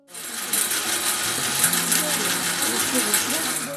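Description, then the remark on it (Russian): A small motorized candle-making machine at a convent where nuns make candles runs steadily, a continuous whirring hum with fine mechanical clatter throughout, and faint voices murmuring underneath. “Раньше такое производство было полностью ручным, но потом с помощью моторчика удалось сделать небольшой свечной станок.”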